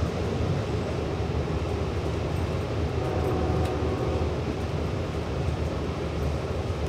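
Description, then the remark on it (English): A steady, loud rumble of a Long Island Rail Road commuter train running along the rails in 2017, with a continuous low-frequency roar and faint rattling clacks throughout, with no talking. “riding the Long Island Railroad back in 2017.”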